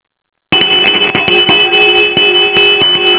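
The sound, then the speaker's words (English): After a moment of silence, a genuine hand-held Ding Dong School bell bearing the NBC network emblem clangs loudly and continuously, its rapid repeated strikes blending into a sustained bright ring, somewhat tinny, with no voices. “it was a genuine ding-dong school bell with the emblem on it and everything”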